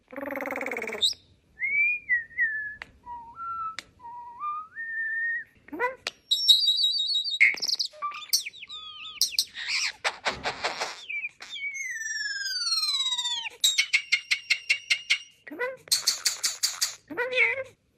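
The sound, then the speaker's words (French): A starling mimicking human sounds and whistles runs through a lively medley: slurred whistles, sharp clicks, buzzy rattles and rapid chatter, some of it faintly voice-like, in continuous bursts with no one talking. “c'est les tourneaux qui imitent les sons humains”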